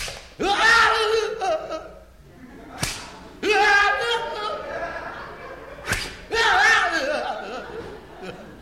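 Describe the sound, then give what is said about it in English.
A whip lashes a bare back twice as punishment, with sharp, loud cracks a few seconds apart, each one followed by drawn-out pained cries and shouting from other voices. “Whip away.”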